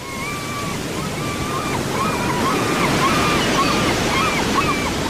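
Ocean waves roar steadily, a continuous wash of surf that swells slightly, with a faint wavering high tone drifting over the water noise.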